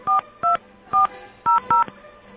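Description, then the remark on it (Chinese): Five crisp touch-tone beeps from a phone keypad as a call home is dialed, each a short dual-tone burst at an uneven pace, with a faint hum underneath and no voices. “好，我们先打电话回家”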